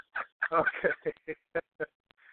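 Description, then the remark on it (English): A turkey gobbles: a quick series of throaty, warbling bursts, loud at first, then breaking into a few separate clucks that trail off with a faint rasp at the end. “Turkeys. You know, turkeys are coming that time of year, and Thanksgiving and Christmas are right around the corner.”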